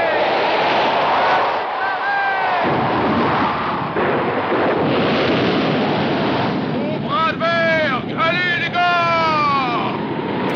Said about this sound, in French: Extrait de Moby Dick, le film de 1956, avec cette ambiance de tempête et de mer déchaînée.